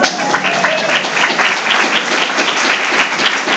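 A crowd applauds steadily, many hands clapping in a dense, continuous wash of sound that stays loud and even for several seconds without talk over it.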